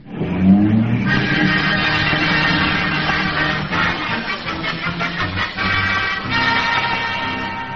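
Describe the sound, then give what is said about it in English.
A taxi's engine revs hard and the car speeds off as tires screech and skid, a loud continuous squeal with shifting pitch lasting several seconds, with no voices. “Yeah, quick, taxi. Catch that bus.”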